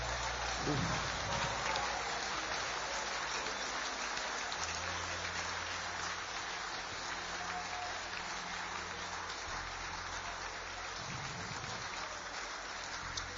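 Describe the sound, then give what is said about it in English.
An audience claps steadily in praise to God, in a dense, continuous wash of hand claps that holds at an even loudness throughout, with faint voices briefly rising underneath near the start and end. “Clap your hands and release a praise to your God.”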